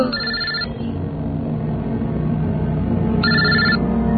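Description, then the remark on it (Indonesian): A telephone rings with a call from event organizers, in two short bursts about three seconds apart, a bright trilling tone over a steady low rumble of background noise, with no voices. “Ternyata itu adalah telepon dari panitia.”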